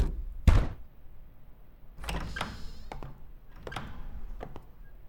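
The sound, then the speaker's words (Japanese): Knocking on the door of the neighbouring stall in a public toilet: one loud thump, then a few scattered groups of sharp raps, with no voices. “公衆トイレの中、タケシがヘッドセットを外し隣の個室をノックする”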